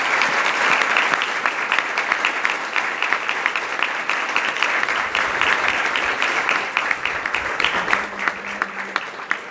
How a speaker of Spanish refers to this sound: Por eso hoy le damos unos agradecimientos grandes, inmensos, a la administración departamental en cabeza de la doctora Rosa Cote. Para ella pido un fuerte aplauso, pero grande.